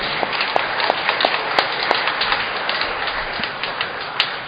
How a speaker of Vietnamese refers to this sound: Chúng ta cảm ơn và chúc mừng Hội Dòng Bạc Cát Minh một tràng vỗ tay thật lớn.